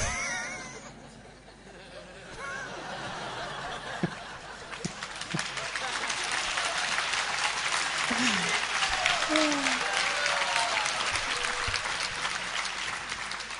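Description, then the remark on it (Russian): An audience at a talk about Krishna breaks into sustained applause that builds after a few seconds and keeps going steadily, dense and fairly loud, with a few scattered voices and laughs mixed in. “Чего вы хлопаете?”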